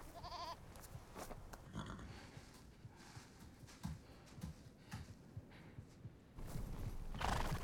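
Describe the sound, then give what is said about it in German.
A horse whinnies loudly near the start and again briefly at the end, while hooves clop unevenly on hard ground throughout, with a rustling, busy farmyard background and no voices. “Johannes, geh in den Stall und kümmere dich um mein Pferd.”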